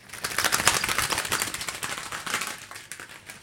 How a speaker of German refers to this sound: Und leere Luftballons als Federschlagen.